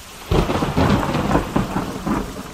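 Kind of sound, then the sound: nature, thunderstorm with heavy rain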